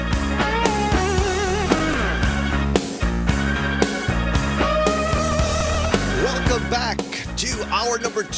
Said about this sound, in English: That music is signals that Pat is in at 6 past the hour of 7 o'clock.